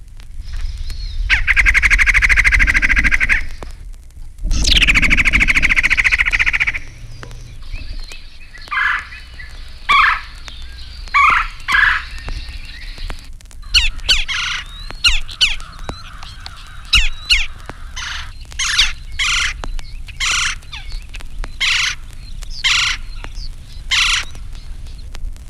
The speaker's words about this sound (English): These calls are from a red-bellied woodpecker.